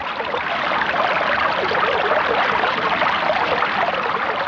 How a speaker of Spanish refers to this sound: manantial, que es donde nace el agua. Siempre está muy fresca y cristalina.